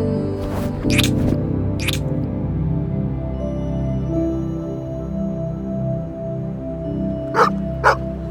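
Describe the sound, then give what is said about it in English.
A dog gives several short, sharp barks, three early on and two more near the end, over a steady low background rumble. “What are you doing, dog? Go, scram! Beat it!”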